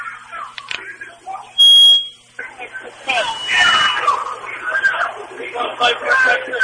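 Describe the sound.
Protest crowd chanting in the street: a loud, dense mass of voices swelling and overlapping, broken early by a short, sharp electronic beep before the chanting builds again.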